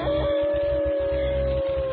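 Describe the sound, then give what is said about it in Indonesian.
A dog howls outside a house in one long, steady, drawn-out note that holds for the whole moment, set against a low, rumbling background drone. “Dia terus melolong dari luar rumah.”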